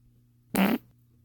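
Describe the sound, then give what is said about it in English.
A single short, loud fart lasting about a quarter second with a raspy, buzzing tone over a faint steady hum; no one speaks. “I can't believe my boyfriend has a fucking fart fetish.”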